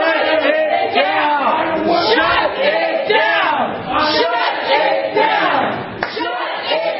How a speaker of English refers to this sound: By the way, one of the people shouting "shut it down," kind of leading that chant,